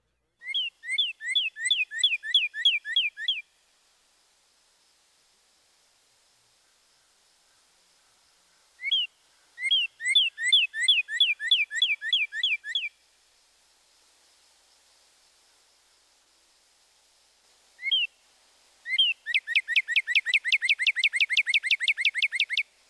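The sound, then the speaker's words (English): A northern cardinal sings clear, two-syllable 'purdy' whistles repeated in quick rhythmic series, three bursts separated by pauses, the last one faster and louder, alone in a quiet background. “Another typical cardinal vocalization is a two-syllable whistle. We can represent this as purdy, purdy, purdy.”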